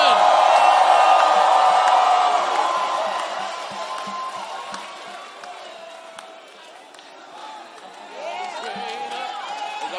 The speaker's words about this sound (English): If you know you serve a great God, give the Lord a mighty shout.